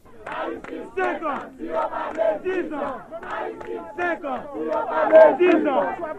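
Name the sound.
crowd of supporters chanting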